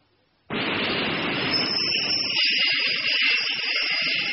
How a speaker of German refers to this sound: Und das ist eine U-Bahn.